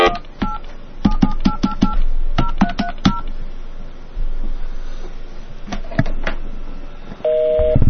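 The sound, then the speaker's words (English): A quick series of touch-tone phone dialing beeps, a short pause and a few more tones, then a steady, loud busy signal begins at the end. No voices. “Busy! The Lord is too busy to talk to me.”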